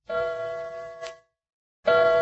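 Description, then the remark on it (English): A grandfather clock in the hall of a house chimes at 2 o'clock in the morning with two rich, ringing bell strikes; the first hums and slowly fades, then after a short silence a second loud strike begins, with no voices present. “The grandfather's clock in the hall,”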